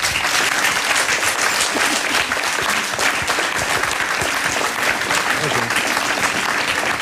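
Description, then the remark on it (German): Sustained, dense applause from a large audience welcoming Harald Hauswald, whose retrospective of 250 photos is at the C/O Berlin photo gallery: a steady wash of many hands clapping for about seven seconds without pause. “Hier ist er, ich bitte Sie um einen tosenden Applaus.”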